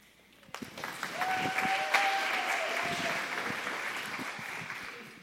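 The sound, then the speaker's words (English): An audience breaks into loud, sustained clapping for students, swelling quickly and holding steady, a dense patter of many hands with a few faint whistles riding over it. “Man, I know y'all are probably all clapped out, but could y'all give it up for those students one more time?”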